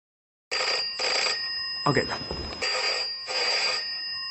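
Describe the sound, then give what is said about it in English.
A telephone rings in repeated bright electronic bursts, fairly loud, with a short stretch of voice breaking in between the rings. “The phone is ringing.”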